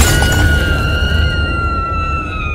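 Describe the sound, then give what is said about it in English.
A loud crash as a rock smashes through a glass window and into a webcam, with a burst of breaking glass followed by a bright ringing tail and low rumble fading over a couple of seconds. “But then out of nowhere, a rock came hurtling through the glass and smashed right into the webcam.”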